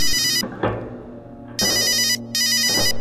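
A telephone rings in loud bursts: one burst ends early, then two more long trills follow after a pause, each a bright, buzzing electronic ring with no voices.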